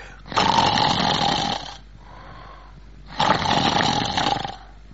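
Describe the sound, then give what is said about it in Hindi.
A voice imitates the snoring of a man asleep while watching a film: two long, loud snores, each a rasping, rattling inhale lasting over a second, separated by a brief quieter breath, prominent with no speech. “एक साहब जो बाजू में बैठे हुए थे वो सो रहे थे और सोते सोते खर्राटे ले रहे थे और खर्राटे वो यूं ले रहे थे।”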